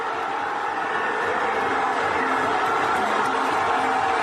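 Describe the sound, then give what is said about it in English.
A stadium crowd at a World Baseball Classic exhibition game against the Tigers cheers in a loud, steady roar of many voices blended together as Juan Soto hits a home run to right field, holding at full volume for the whole few seconds with no single voice standing out. “Listen to the reaction after Juan Soto hits a home run.”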